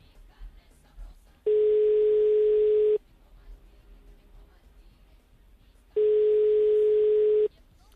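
Two long, steady ringback tones from a phone line on an outgoing call placed during a radio program, each lasting about a second and a half with a pause between, heard clearly over a faint background murmur.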